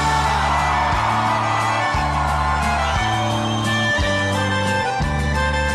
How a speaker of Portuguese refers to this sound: Quem tá apaixonado dá um grito.